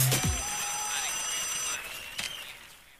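A WhatsApp call rings with a bright electronic tone, steady high notes over a gently sliding melody, fairly loud, then a sharp click near the end as the sound trails off.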